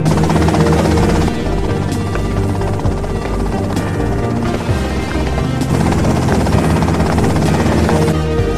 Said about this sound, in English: Okay, that's them in the chopper.